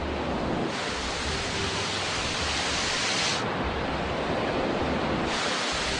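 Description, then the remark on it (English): A steady, full-bodied roar of ocean tide water surging through the Golden Gate strait at 2.3 million cubic feet a second, a continuous rushing wash that swells slightly in brightness at times, with no voices. “These ocean tides are forcing 2.3 million cubic feet of water a second, two times a day, back through the throat of the Golden Gate.”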